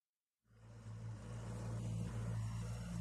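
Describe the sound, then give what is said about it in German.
After a brief moment of silence, a small boat engine starts chugging steadily as the boat maneuvers through narrow canals, a continuous low rumble with an even, monotonous throb and no voices. “Monoton tuckerte der Motor des kleinen Bootes vor sich hin”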